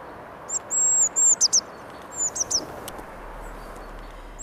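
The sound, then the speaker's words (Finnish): Thin, high-pitched calls of a small flock of blue tits repeat in quick bursts over steady outdoor background noise, the birds squabbling with each other in a nearby tree in central Helsinki, Finland, behind the railway station at the south end of Töölönlahti bay. “Tuossa on toinen sinitien tuossa lähipuussa.”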